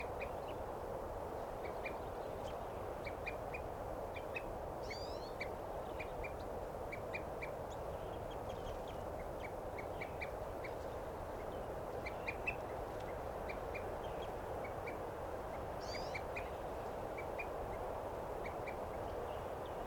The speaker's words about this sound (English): Tuken at the water hole.